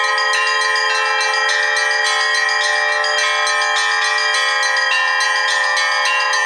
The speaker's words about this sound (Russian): С самого утра над северной столицей не смолкает колокольный звон.